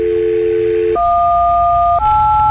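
Three telephone keypad dialing tones sound one after another, each a steady, clear beep lasting about a second and rising slightly in pitch, with no talking and a thin, phone-line quality.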